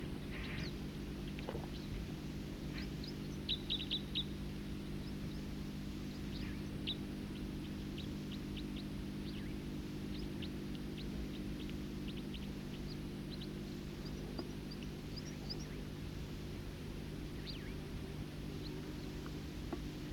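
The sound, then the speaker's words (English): Faint, high bird calls, short chirps and ticking notes from two birds singing in unison, come in scattered bursts over a steady, loud low engine drone that persists throughout. “Both birds singing in unison.”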